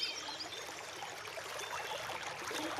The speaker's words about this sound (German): Und den Rest unserer Folge verbringen wir an einem kleinen Bach und lauschen, wie er rauscht und plätschert.